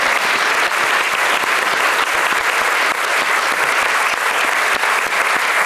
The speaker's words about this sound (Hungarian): nagy tapsot szeretnék kérni a panelistáinknak. És szeretnék kérni még egy tapsot azoknak a partizáns kollégáknak, akik nem ültek itt a színpadon, de akik nélkül mi sem ülhetünk volna itt a színpadon.